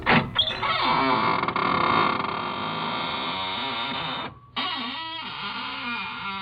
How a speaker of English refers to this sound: Good evening, friends of the Inner Sanctum. This is Raymond, your host at the squeaking door. Come in, won't you?